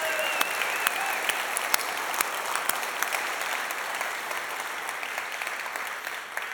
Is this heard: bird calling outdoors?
no